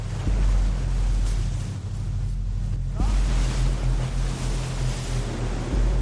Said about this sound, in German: Der Start ist verheißungsvoll. Bei rund 60 Kilometer Windgeschwindigkeit brausen die beiden übers Wasser, kommen schnell voran.